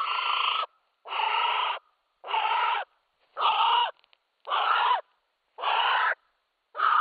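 A female North Island brown kiwi gives a series of seven hoarse, rasping calls in a steady rhythm, each about half a second long, loud, with short silent gaps between them.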